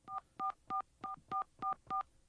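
A quick run of seven touch-tone dialing beeps, evenly spaced and clear, each a short dual-pitched electronic tone as a number is punched into a telephone keypad.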